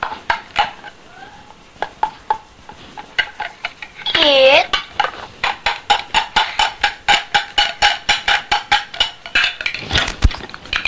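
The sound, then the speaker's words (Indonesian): Rapid, rhythmic clinking and scraping as ingredients are beaten and shaken in a metal pot while making egg martabak, the strokes steady and fairly loud, with a brief high, wavering squeal partway through. “Dikocok terus.”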